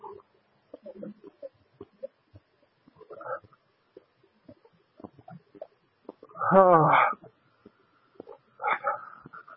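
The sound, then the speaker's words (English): A dog whimpers and whines in a few short, strained bursts, the loudest near the end, with softer scattered yips and muffled sounds in between. “Dog's not a person.”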